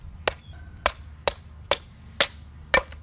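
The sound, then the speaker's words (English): An armful of firewood being chopped on a clear fall morning at a small farm between a parking lot and a public tennis court in Kansas City, in preparation for making apple short beer: six sharp, cracking blows about half a second apart, each a loud woody thwack over a low, constant rumble, with no talking. “is chopping an armful of firewood at a small farm nestled in between a parking lot and a public tennis court.”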